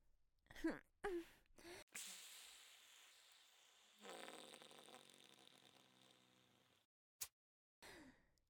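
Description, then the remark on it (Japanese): A soft hissing silent fart released at zero distance by squeezing the anus: a breathy rush of air for about two seconds that turns into a longer, thin squeaky tone, with short sharp breaths before and after. “アナルでキュッと締めてプスーって、こんなことまでできるようになっちゃった。”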